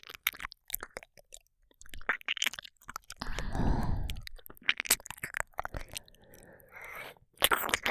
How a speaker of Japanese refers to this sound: これからご主人様のお耳、ペロペロしてあげます。